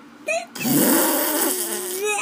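A wet, buzzy flatulent sound made with a thumb, about a second and a half long, loud, with a wobbling tone that sputters and trails off.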